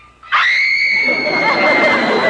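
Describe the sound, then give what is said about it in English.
A loud, sustained high-pitched human scream from the back bedroom of a house bursts in after a brief quiet moment and holds steady for about two seconds, piercing, with a rough noisy edge beneath it. “The scream I heard came from the back bedroom.”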